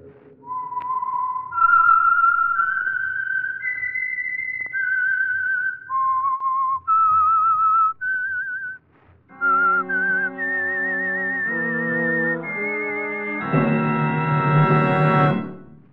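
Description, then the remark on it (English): A clear, prominent solo whistled melody of long, gliding notes, the theme of The Whistler radio program for the Signal Oil Program, then an orchestra picks up the tune and swells to a full, loud chord at the end. “That whistle is your signal for the Signal Oil Program.”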